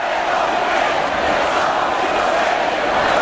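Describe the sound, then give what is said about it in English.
A large crowd at a street demonstration in Barcelona, demanding that Catalonia not secede from Spain, roars continuously, a dense wash of many voices shouting and cheering at a steady, loud level with no pauses. “Large crowds demonstrated in Barcelona yesterday to demand that the region of Catalonia not secede from Spain.”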